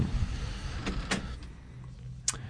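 A door creaks in a few short, scraping bursts over a steady low rumble, with the last squeak the sharpest. No one speaks.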